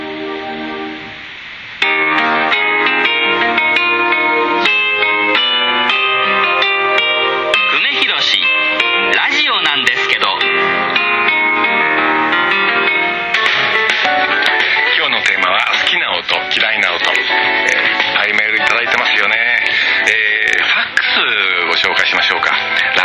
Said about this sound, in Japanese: 最も好きな音は TBS に合わせるためにダイヤルを回すときに聞こえてくるあの雑音っぽい音、うん、そしてだんだん声が正常になってチューニングがぴったり合った時のあの感じが大好きです。 快感ですよね。